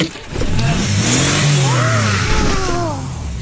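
A car engine revs up loudly, its pitch rising and falling in a couple of surging throttle bursts before settling back, with no talking over it.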